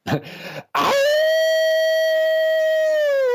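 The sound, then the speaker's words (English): A person imitates an old hound dog's howl: a brief rough, breathy start, then one long, loud, steady high-pitched wail that slides up at first and droops slightly at the end. “And so we'd like if you could close us out with your best old hound dog howl.”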